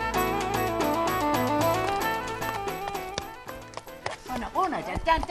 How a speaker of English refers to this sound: He's a lovely horse. See that eye? That's a bright eye now.